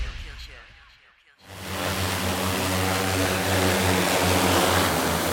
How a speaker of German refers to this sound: Es brummt und surrt ganz gewaltig, als Hilfswerke ihre Drohnen vorführen, um zu zeigen, was die können und wie sie sinnvoll eingesetzt werden.